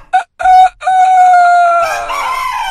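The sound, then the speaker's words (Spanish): A person's voice loudly mimics a rooster's crow: two quick clipped notes, then a long held cry that turns raspy and wavering as it trails off. “Y yo recuerdo que yo bajo el mosquitero, tempranito en la mañana, te estoy hablando, 5 de la mañana, oías el gallo que hacía así.”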